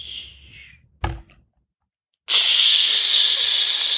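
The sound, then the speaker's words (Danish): A soft hiss fades, a single dull knock lands, then after a brief silence a loud, steady sizzling hiss bursts in as a small drop of water from a drinking spout hits ice, continuing without voices. “Da den ramte isen, der sydede det.”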